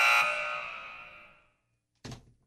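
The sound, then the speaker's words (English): A loud, harsh buzzer blares for about a second and a half, then fades out, followed after a short silence by a brief thump or click. “We hit the buzzer once, guys. We got to quit with the buzzer.”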